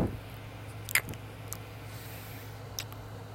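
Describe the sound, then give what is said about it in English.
Soft, wet kissing sounds: a few brief smacks spaced irregularly, the clearest near the start, over a low steady hum. “Come here and give me a kiss before you start the shower.”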